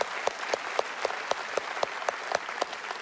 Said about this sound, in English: Yeah, man, let's clap for that.